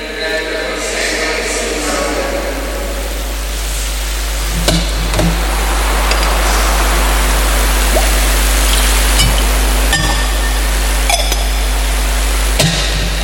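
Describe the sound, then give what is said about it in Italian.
Water is poured steadily into wine in a metal chalice with a continuous trickling hiss, broken by a few sharp clinks of metal against metal, fairly loud. “L'acqua unita al vino, se segno della nostra unione con la vita divina, trasforma il nostro futuro.”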